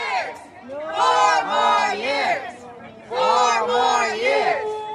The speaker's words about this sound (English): The crowd waved flags and campaign signs as they chanted.